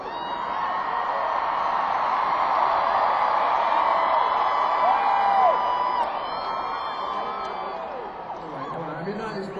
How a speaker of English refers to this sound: because all the girls are screaming, you know?